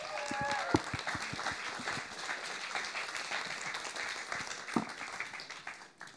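An audience at MyChurch claps steadily as two people are invited onto the stage, a dense patter of overlapping hand claps that holds for about six seconds, with a brief whistle-like tone near the start before the applause thins at the end.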